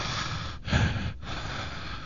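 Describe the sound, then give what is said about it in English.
Breathy air rushing into a microphone, a sharp inhale swelling in the middle and then a softer, steady exhale, with no talking. “Somebody's breathing.”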